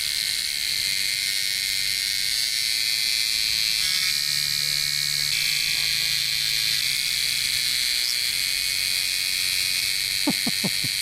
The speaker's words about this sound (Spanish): Y las cigarras volaban alegremente, todas sincronizadas, produciendo sus sonidos en estos tonos que los científicos japoneses querían imponerles.